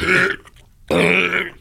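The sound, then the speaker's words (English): Two loud burps, each lasting about a third to half a second, separated by a brief pause, with a raspy, resonant vocal quality and no speech. “I did burp.”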